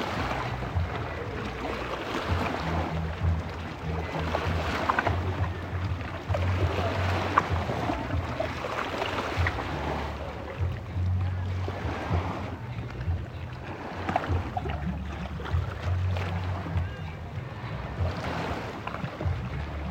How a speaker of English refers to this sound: at the beautiful sunset, just listening to the waves crash for a while, and I decided to record it because I knew that I wanted to share it with you at Viva Porú, el ungüento para el alma. So yeah, here goes a little snippet of Lago Titicaca for you.